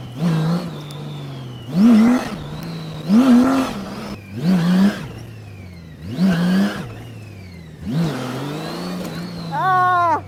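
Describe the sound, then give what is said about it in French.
A V6 car engine revs hard about six times in quick succession, each burst climbing in pitch then dropping back to a steady idle between pulls, loud. “Charlotte, c'est une voiture en fait.”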